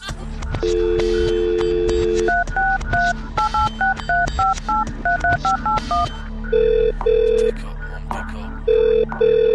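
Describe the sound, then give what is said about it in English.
A steady dial tone gives way to a quick run of about a dozen touch-tone keypresses, then a repeating ring-back pulse, all over a low, busy musical background. “Yo, just get off the phone, man.”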